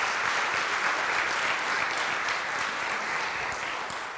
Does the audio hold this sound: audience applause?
yes